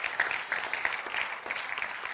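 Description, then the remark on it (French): An audience applauds steadily to thank God, a dense crowd of hands clapping in a continuous, bright patter with small irregular swells, no voices standing out above it. “Est-ce qu'on peut l'applaudir et le remercier pour sa vie en nous?”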